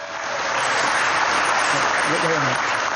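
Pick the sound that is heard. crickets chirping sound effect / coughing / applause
applause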